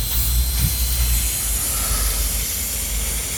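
A steady, broad hiss of water escaping from a slightly bent main water pipe at the main shutoff valve, continuous and fairly loud throughout, with a low rumble underneath and no voices.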